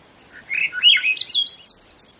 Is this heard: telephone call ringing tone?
no